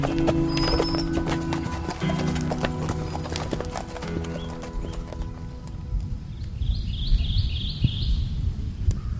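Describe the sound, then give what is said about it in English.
Steady clip-clop of horse hooves during a trail ride out in nature, an even rhythm of many hoofbeats, with faint bird chirps in the background and a brief whinny-like tone early on. “And that was the real reason I bought the farm, because of how relaxing it was to go on a trail ride and be able to be out in nature and enjoy horses.”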